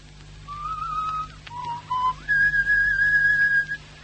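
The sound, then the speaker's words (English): A person whistles a short tune, with clear sustained notes that step between a few pitches and hold steady, over a faint low hum and no talking. “Oh, that whistle of yours.”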